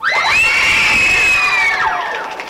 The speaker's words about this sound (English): Go ahead, cheer.